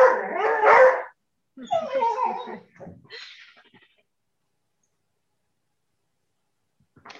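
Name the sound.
dog barking at passerby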